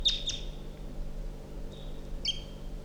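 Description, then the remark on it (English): High, thin calls from bird number 348 sound in short bursts as wild birds come in: a pair of sharp chirps at the start, a faint whistle midway, then another bright chirp, all over a steady low hum. “So we're calling 617, and this is bird 348 as wild birds come in.”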